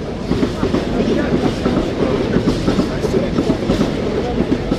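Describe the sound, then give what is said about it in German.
Locomotives and trains rush past a building in Oerlikon on rails every minute, a steady rhythmic clickety-clack of wheels over track joints, loud, a dense rolling roar that fills the whole stretch without letting up. “Jetzt brausen Loks und Züge im Minutentakt an ihm vorbei, am Gebäude, auf Schienen.”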